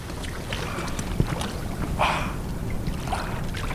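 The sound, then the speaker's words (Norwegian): A splash as a man throws himself into ice-cold water, a short watery burst over steady wind and outdoor rumble, with faint sloshing afterward. No one speaks. “Kaster seg ut I vannet som iskaldt.”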